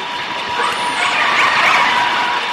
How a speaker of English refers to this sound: Now consider the noise of a passing freighter. And now listen to the combination as a different large ship comes around a corner and intersects with a pod of whales.